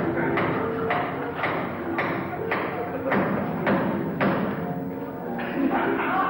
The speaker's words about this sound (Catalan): Esta és l'obra en la que Maciunas planteja un piano aporrechat, a martellaes, destrossar allí per a que el públic es quede, doncs, imagineu-se, flipant.